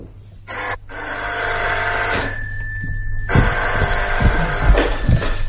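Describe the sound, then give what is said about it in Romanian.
A telephone bell rings loudly with a harsh, metallic clatter, sounding in long bursts separated by brief pauses. A low hum runs underneath, and there is no talking. “pentru ea sunt acasă la orice oră ar telefona.”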